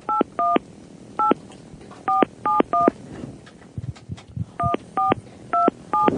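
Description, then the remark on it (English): A phone number is punched in on a touch-tone phone keypad to place a call: about a dozen crisp dual-tone beeps, clear, in two quick runs separated by a short pause with faint handling noise. “Okay, we're calling.”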